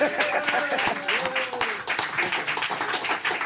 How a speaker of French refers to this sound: Eh bien, merci, on l'applaudit !